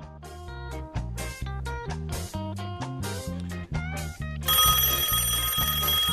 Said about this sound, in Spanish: El teléfono. Ah, mira vos, tengo teléfono.